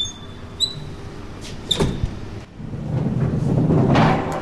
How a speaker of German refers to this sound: Obendurch donnern die ersten Flüger vom Tag.